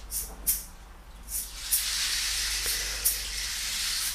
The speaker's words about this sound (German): Du hörst den Wasserfall wieder rauschen.